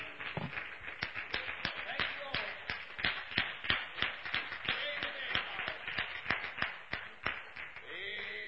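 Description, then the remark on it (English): An audience at an evening church service applauds after a gospel song, sharp hand claps crackling steadily for several seconds in a loud, dense, uneven rhythm, with faint voices murmuring underneath. “Of applause, saints.”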